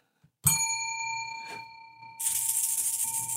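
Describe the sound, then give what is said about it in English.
A single bright gong strike rings out with a sustained metallic shimmer that slowly fades, followed by a loud burst of hissing, crashing noise. No one speaks. “Kapow! 1,200 pedals. Gong.”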